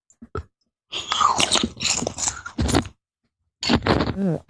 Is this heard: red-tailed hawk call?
no